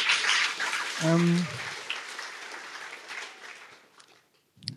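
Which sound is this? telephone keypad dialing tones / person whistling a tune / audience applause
audience applause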